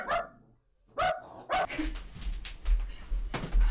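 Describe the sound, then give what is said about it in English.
A pet dog named Lisa barks several times in quick, uneven bursts. Three sharp, mid-pitched barks come first, followed by rougher, noisier yaps over a low rumble, with no talking. “Lisa, stop barking.”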